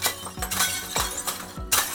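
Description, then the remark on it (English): Several plates smash one after another in quick succession, each a loud crash with a sharp thump and a bright scatter of shards, with continuous clattering debris in between and no voices. “The plate-smashing channel was a big hit.”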